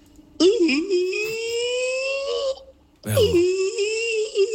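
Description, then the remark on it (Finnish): A human voice mimics whale song in two long, loud, moaning calls, each swooping upward and sliding in pitch, separated by a brief pause. “Tää oli kuin valaiden opera laulaja suorastaan.”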